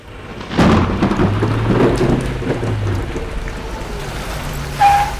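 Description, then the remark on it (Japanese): A loud thunderclap rumbles low and long over steady, hissing heavy rain on a night of terrible weather, with a second sharp crack near the end; no one speaks. “ひどい天気で、お客さんは誰もいなかったわ。”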